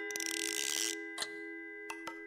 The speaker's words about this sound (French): C'est la pendule de mon grand-père qui a sonné le moment de partir au train.